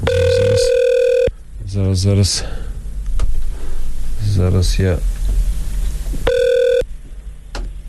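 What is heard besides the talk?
telephone ringing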